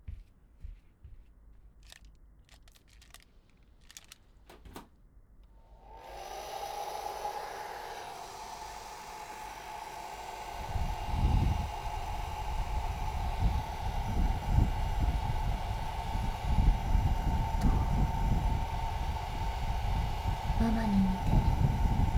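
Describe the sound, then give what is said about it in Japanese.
A few sharp clicks, then a hair dryer, used to dry someone's hair, switches on and blows steadily with a constant whooshing roar and a humming motor tone, its airflow buffeting and rumbling as it moves. “じゃあ、風邪ひかないようにドライヤーもやっちゃうね。”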